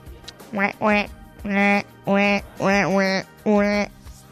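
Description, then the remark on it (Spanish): A person imitates a duck with about six nasal, buzzy quacks in an uneven series, some short and some drawn out, fairly loud, with no other sounds around them. “Eso es el pato.”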